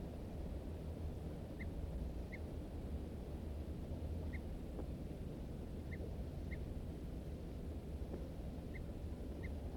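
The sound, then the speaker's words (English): Short, sharp alarm notes from two birds, a wild male and another bird answering it, repeat about seven times at uneven intervals, fairly faint against a steady low rumble of background noise; no one speaks. “M4 responds with alarm notes. Both birds now giving alarms.”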